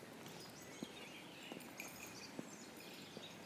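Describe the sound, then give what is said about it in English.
Many birds sing and chirp faintly at dusk, their calls overlapping into an evening chorus, while slow, soft footsteps thud at a steady pace. “Oh, listen to all these birds now. This is the opposite to the dawn chorus.”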